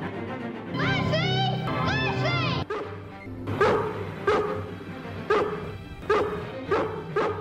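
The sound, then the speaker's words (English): A dog gives high, wavering whines and yelps, then breaks into loud barks repeated steadily about once a second over a low background hum. “Dogs really are man's best friend.”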